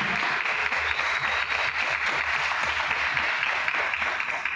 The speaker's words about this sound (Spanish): Yo un aplauso le doy al profesor Juan Carlos.